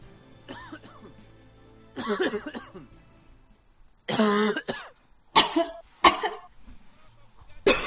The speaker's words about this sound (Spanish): Qué molesta es la tos, ¿verdad? ¿Eh? Estás tú escuchando un concierto y te pones nerviosísimo. Hasta el doble de veces se tose en un teatro.